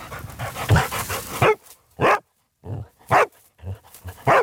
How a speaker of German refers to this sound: Ja, da hat sie laut gegeben, da hat sie angeschlagen, die Maggie, auch eine Hündin, die gerade in der Ausbildung ist zur Leichenspürhündin, und sie hat ihre Arbeit sehr, sehr gut gemacht bei einer Suche im Frankenwald.